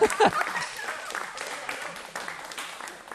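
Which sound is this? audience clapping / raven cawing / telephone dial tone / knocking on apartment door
audience clapping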